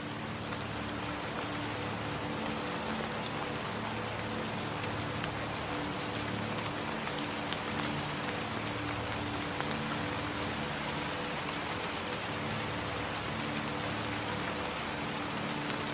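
Steady rain patters down in a forest, with scattered individual drops ticking onto leaves, moss and wood over a continuous soft hiss. The sound stays even throughout, and no one speaks.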